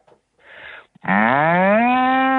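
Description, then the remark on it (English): A person's voice imitates a cow, giving a loud, sustained low moo that rises and holds steady for over a second, preceded by a brief breathy intake and a faint murmur. “Do a cow.”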